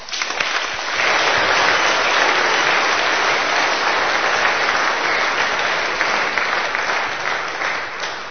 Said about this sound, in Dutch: Ik vind dat we God daar enorm voor mogen bedanken. Zullen we een applaus geven?